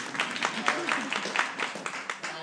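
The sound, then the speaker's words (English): A short burst of audience applause, dense and steady clapping that stays fairly loud throughout, with a few voices faintly mixed in underneath. “And thank you, round of applause.”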